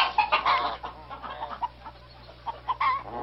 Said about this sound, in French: Des petites poules chinoises. C'est pas de la plume, c'est du poil.